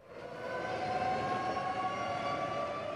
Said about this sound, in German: Ramallah am Vormittag. Eine Sirene heult 70 Sekunden lang. Die Palästinenser gedenken der Nakba, der Katastrophe, und erinnern an Flucht und Vertreibung hunderttausender Palästinenser im Jahr von Israels Staatsgründung vor 70 Jahren.